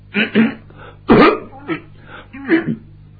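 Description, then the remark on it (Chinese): A man's voice imitates coughing, a series of short throaty coughs and throat-clearing bursts in uneven groups, moderately loud, with no other talking. In a storytelling performance, he imitates King Zhou coughing impatiently behind the dragon curtain. “纣王等啊等啊，一看俩人谈起了没完了，没理自己这个茬，他就有点等不及了，在龙帘后头直咳嗽。”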